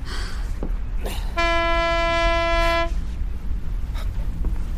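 A single steady blast of a ship's fog horn sounded in fog, a loud, rich, buzzing tone lasting about a second and a half, rising out of a low, rumbling background wash and then cutting off abruptly.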